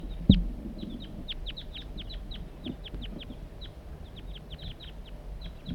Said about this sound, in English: Another crossbill flying over. Different crossbill.